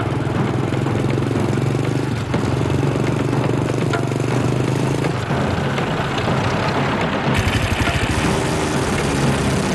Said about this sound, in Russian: Вот, какой-то гуд такой нарастает ближе, ближе, ближе, ближе. Оттуда с перекресток выезжают. Мы не поймем даже, на чем это едут-то. А это мотоциклы с колясками, на них сидят за рулем, и кто-то в колясках еще сидит.